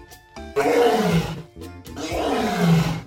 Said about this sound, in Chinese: 哇，狮子的叫声好大哟。